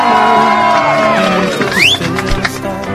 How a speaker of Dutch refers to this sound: Ja, we hebben een winnaar in Wapsen. Mag je nog één keer een applaus horen, wat ik net ook hoorde van jullie allemaal?